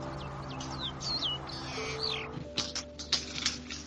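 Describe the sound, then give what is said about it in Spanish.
A loica (long-tailed meadowlark) sings a run of bright, sweeping whistled notes, rising and falling, followed by a burst of short sharp chirps over a steady low hum in the background. “¿Y saben cómo canta la Eloica? La Eloica canta así, miren.”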